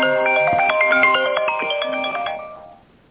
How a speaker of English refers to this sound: I'm not quite sure what that meant. No, I'm sorry. That was my other phone ringing.